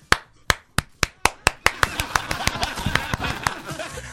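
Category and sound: crowd, applause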